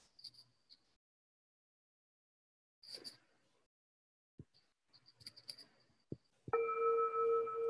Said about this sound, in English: Can you hear that? Okay. So first bell, and then 3 minutes later, the second bell.